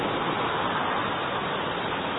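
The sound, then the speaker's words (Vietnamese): A dense, unbroken hiss of heavy rain pours down at a steady, fairly loud level, with no distinct drops standing out and no voices. “Mưa to có nghe được không?”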